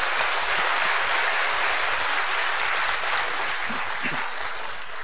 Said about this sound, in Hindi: देखो अच्छे से ताली तो बजा दो।